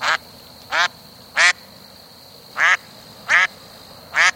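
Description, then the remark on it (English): A duck quacks six times in loud, nasal bursts with short irregular gaps between them. The quacks are clear, with no talking and only a faint background hiss. “Have you ever watched ducks walking around in freezing temperatures and wondered how they keep their feet from freezing?”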